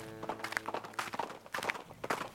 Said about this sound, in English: I was too preoccupied looking for him and thinking about my next move that I didn't at first hear the horse galloping towards me.